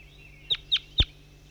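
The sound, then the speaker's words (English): Three short, sharp bird calls in quick succession from the bird labelled 5-3, each a high chirp with a slightly harsh edge, the last one strongest, over a faint steady background hum. “This is bird 5-3 calling.”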